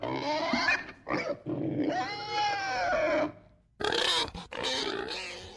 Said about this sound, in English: Is it a pig?